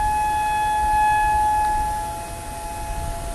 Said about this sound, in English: All right, I had to stop there because a local siren went off for some reason.